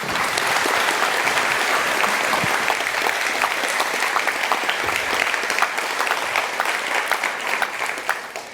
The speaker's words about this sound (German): Bitte begrüßt mit einem ganz, ganz großen Applaus